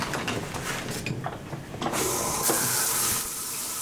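Clattering, rustling noises give way to a steady hiss of water spraying from a shower in a prison cell, which runs for about a second before cutting back. No voices.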